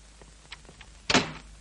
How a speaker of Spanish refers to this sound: Isabel cierra la puerta, se gira y abraza a Manolo.